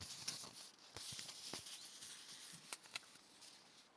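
Soft crinkling of paper and the material of a tea bag for tea-bag-type black tea being handled, a quiet continuous rustle with a few sharper crackles scattered through, no voices.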